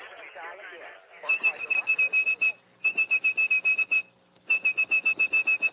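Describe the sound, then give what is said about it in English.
After a brief bit of talk, a person whistles a high, steady telephone switching tone in three bursts, each paired with rapid, evenly spaced pulses, fairly loud, to trigger the switches of a mechanical telephone network. “If you had perfect pitch like blind phone freak …, you could whistle calls through the network.”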